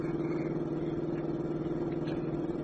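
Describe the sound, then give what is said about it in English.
A car engine roars steadily at high revs as the car is driven at its top speed, a low, even droning hum with a constant pitch and loudness throughout, with no voices over it. “The car won't go any faster.”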